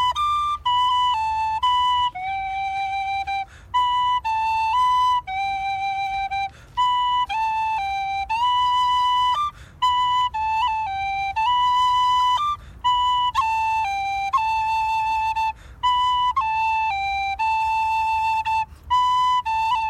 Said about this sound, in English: The modern penny whistle is indigenous to Great Britain and Ireland, in particular to England